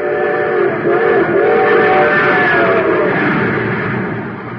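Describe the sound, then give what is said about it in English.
The Terra Express train, supercharged with super fuel, rushes along at high speed, a loud, steady roar with a sustained whistle-like tone over it and a slight pitch bend. It fades a little toward the end, with no voices. “Yes, sir, that train's really traveling now because it's supercharged with super fuel.”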